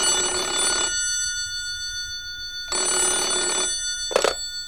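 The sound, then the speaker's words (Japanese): A telephone rings at the Minamiyama police station in two long bursts separated by a pause, followed by a brief clunk as if the receiver is picked up; clear with no talking. “実はその頃、南山署に一本の電話がかかっていた。”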